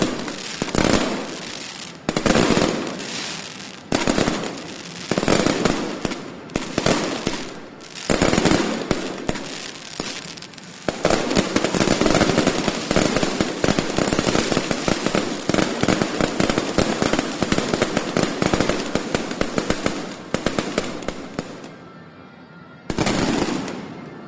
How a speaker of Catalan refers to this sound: Déu-n'hi-do, i sota els aplaudiments del públic, aquests focs artificials, aquesta pirotècnia que encara continua,